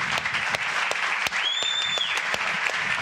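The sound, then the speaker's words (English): Dense, sustained applause from a large crowd at a game, giving a standing ovation to student veterans, steady and loud throughout, with a brief high whistle cutting through the clapping midway. “Standing ovation.”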